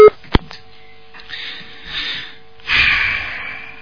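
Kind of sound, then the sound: signal or alarm, telephone tones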